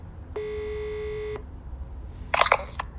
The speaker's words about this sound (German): Der Finanzchef der Bayer AG hält den Telefonhörer ans Ohr und drückt die Taste für Wahlwiederholung.